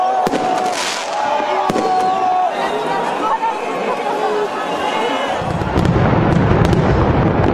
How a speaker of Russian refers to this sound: В Берлине основные гуляния прошли у Бранденбургских ворот. Над ними сверкал традиционный салют.